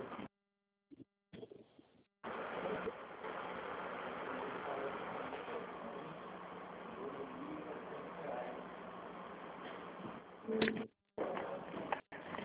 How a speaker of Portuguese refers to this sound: Oi, aqui tem ar-condicionado e a cortina de ar faz um barulho danado. Eu fui desligar ela para poder te ouvir. Que não estava te ouvindo.